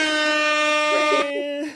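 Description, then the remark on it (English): A loud air horn, played as a Jamaican sound effect, blares as one continuous, brassy, steady-pitched blast for nearly two seconds, with a voice briefly talking over it near the end. “I got some Jamaican sound effects too.”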